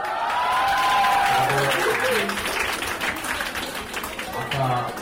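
crowd, students cheering and applauding

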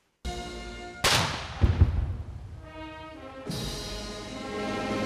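impact, cannon salute gunfire

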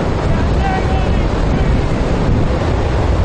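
machine, strong wind blowing

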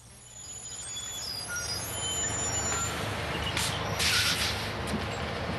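vehicle, bus pulling up

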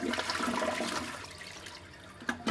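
household object, water-saving toilet flushing

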